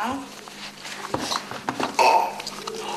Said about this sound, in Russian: Да, липучки расстегивай, снимай кроссовочки. Ручками.